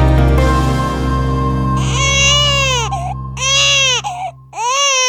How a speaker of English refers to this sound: A baby's cry is universally recognizable, but now there's evidence that a newborn's cries may be shaped by the language it hears while still in the womb.